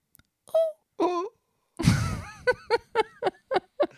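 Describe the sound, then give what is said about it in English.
A voice imitates a tiny Japanese anime girl with high, squeaky whimpers: two short yelps, a breathy gasping burst, then a quick rhythmic string of six or so little pitched squeals, fairly loud. “And then I would make a little tiny Japanese anime girl sound.”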